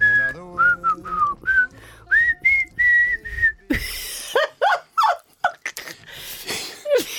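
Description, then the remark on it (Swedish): Someone whistles a short, wavering tune of separate notes for a few seconds, then it breaks off into noisy bursts and squeaky, whine-like yelps. “Jag visslar lika bra som jag sjunger.”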